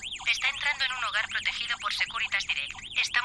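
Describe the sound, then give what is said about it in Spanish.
A home security alarm tone warbles continuously, rapid rising and falling chirps sweeping up and down in pitch, loud, with no pauses across the few seconds. “Anda, ¿te has puesto la alarma?”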